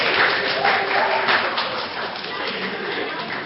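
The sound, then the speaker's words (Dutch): Steady applause from an audience for the adult performers, a dense wash of many hands clapping at once that holds fairly loud for a few seconds, with some crowd voices mixed in. “Geef hier volwassenen ook even een applaus, maar die doen het goed, hoor.”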